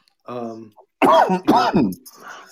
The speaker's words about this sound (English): we got to get you a cough button. No, I know.